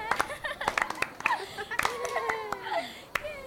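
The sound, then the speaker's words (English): A group of children claps for themselves in a quick, uneven scatter of sharp slaps, with excited young voices and squeals rising over the applause. “Clap for yourselves.”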